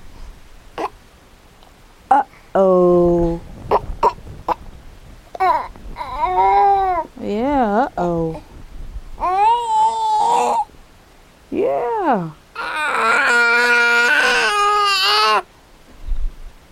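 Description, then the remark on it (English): A small child yells and cries in a series of loud, high-pitched wails with wavering pitch, broken by short gulps and sharp clicks, with a final long, strained cry. “What you yelling about?”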